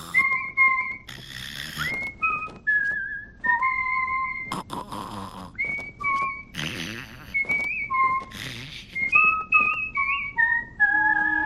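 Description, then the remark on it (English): At night, three sleepers whistle through their breath in bed: a steady run of short, wavering whistled tones that alternate between higher and lower pitches, with breathy snoring gusts between them, fairly loud. “In another room, three sleepers whistle in bed.”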